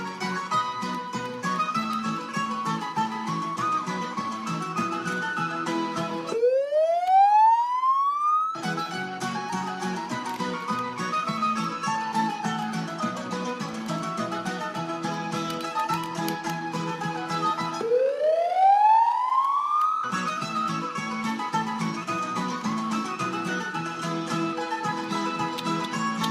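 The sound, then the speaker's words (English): Two chirp tones generated in Audacity, each a steady rising pitch sweep lasting about two seconds, cut into a dense, continuous stretch of music-like sound that stops while each sweep plays. “But another thing we're going to quickly do before I end this is just generate another chirp.”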